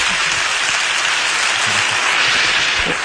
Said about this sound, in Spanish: Un fuerte aplauso para el maestro. Gracias.